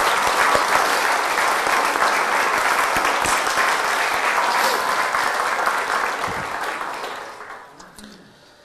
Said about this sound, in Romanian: Să mai aplaudăm un dat.